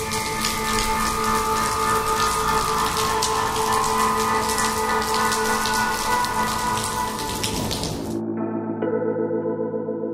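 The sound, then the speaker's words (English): Steady, dense rain from a heavy rainstorm patters loudly over a telephone line, mixed with a low humming drone, then cuts off abruptly after about eight seconds, leaving only the quieter hum. “The phone only answered with the sounds of rain.”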